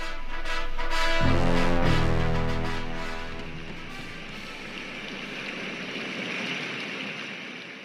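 A white noise machine runs close by, giving off a steady, fairly loud rushing hiss like flowing water, with a brief low humming tone at the start as it kicks on.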